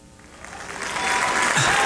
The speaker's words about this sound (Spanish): ¡Ahí está! ¡Ay, esos aplausos están bien falsos! ¡No! ¿Cómo? ¡Son grabados! ¡No, son de verdad, Gaviota! El público acaba de aplaudir.